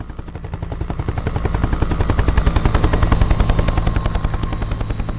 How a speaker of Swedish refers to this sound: Helikoptern som flyger in över Utöya kommer inte från polisen eller ambulansen. Det är ett filmteam från NRK.